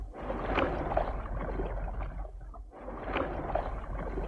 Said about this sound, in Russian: Через несколько минут мы уже были в шлюпке, и гребцы опустили весла на воду.